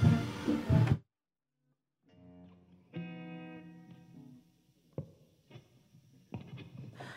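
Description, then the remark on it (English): A short burst of noise cuts to silence, then a distorted electric guitar swells in with sustained, buzzing chords and a few sharp strummed accents, opening a song by a New York-based band with no singing yet. “So here's ….”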